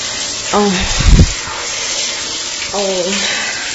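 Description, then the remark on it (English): A shower massager set to its strongest stream sprays fairly hot water hard onto a foot: a steady, forceful hiss throughout, with a brief low thud early on and two short voiced exclamations rising over the spray. “Oh, that strong stream of water is just hitting my foot. Very hard. Very strong. As strong a stream as I can get the shower massager to go on.”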